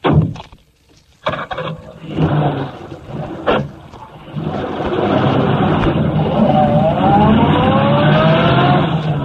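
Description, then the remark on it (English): A few sharp knocks and thumps give way to a car engine that builds into a steady, loud drone, its pitch climbing as the vehicle accelerates and drives off. “Keep the motor going.”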